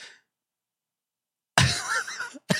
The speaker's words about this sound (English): And people are pointing out there appears to be a sniffing here that he does while hiding away from the camera. I cannot guarantee that he's sniffing a little, what do they call it in the cocaine world? A bump of cocaine.